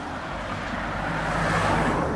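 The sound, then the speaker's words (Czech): Steady road traffic of cars, vans and trucks rumbles past on the main street of Velké Přítočno near Kladno, Czech Republic, where about 15,000 cars pass daily. A continuous wash of engine and tyre noise with a low rumble underneath, swelling slightly toward the end, with no voices. “Ulicí hlavní ve velkém přítočně u Kladna projíždí osobní auta, dodávky i nákladní auta.”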